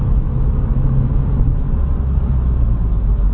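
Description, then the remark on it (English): A car's low, steady rumble fills the cabin as it rolls over a road with potholes, a constant loud road-and-engine drone with no talking and no distinct jolts. “Potholes!”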